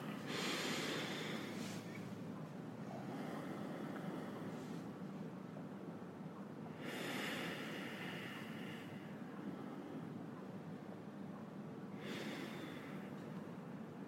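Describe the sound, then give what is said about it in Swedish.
During a group breathing exercise, several people breathe in through their noses together, producing soft, airy sniffing inhalations that swell and fade in three slow waves, like surf, with no talking. “Om jag bara lyssnar på ljudet när ni andas in genom näsan.”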